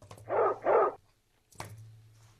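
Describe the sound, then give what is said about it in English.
A dog lets out two quick, loud barks back to back, followed by a short pause and a sharp knock or thump over a low steady hum. “And now that I'm an adult, the more I hear that guy, I'm becoming more and more of a dog guy once again.”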